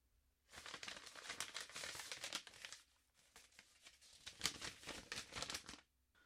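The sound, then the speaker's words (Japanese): An envelope holding a letter from a church, found in the mailbox, is torn open and its paper crinkles in two rustling, crackly bursts separated by a short pause, with no one speaking. “その時郵便受けの一通の手紙に気づきました。 あ、保養園の教会からだ。何かな。”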